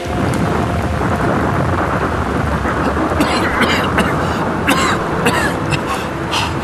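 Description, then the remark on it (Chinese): Heavy, steady rain pours down with a deep rumble of thunder beneath it, loud, with sharper crackling bursts breaking through in the second half. “是雨滴吗？真的下雨了吗？我的头发衣服都淋湿了。”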